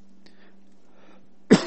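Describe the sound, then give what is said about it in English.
Two quick, loud coughs from a speaker near the end, following a quiet stretch with a faint low hum and soft breathy sounds. “Excuse me, I have a cough tonight.”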